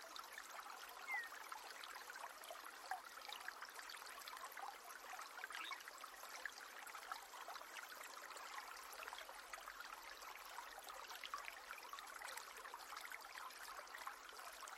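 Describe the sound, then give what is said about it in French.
A small river flows steadily with a soft, continuous babbling and trickling of water, even in level, with no voices. “Et là, plus loin, vous remarquez que cette petite rivière rejoint un autre cours d'eau qui emmène tout cela loin, très loin jusqu'à la mer.”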